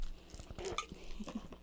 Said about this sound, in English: You really just like to chew on stuff, huh?